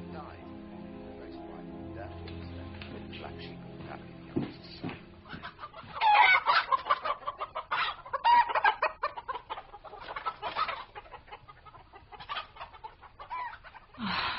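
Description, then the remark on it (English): Chickens named Romulus and Remus cluck in a run of choppy, overlapping bursts that grow louder partway through, following a quieter stretch with a low steady hum. They are not crowing, are being reconditioned by punishing aggressive behavior, and are to be fed once they calm down. “I guess I should be happy they're not crowing.”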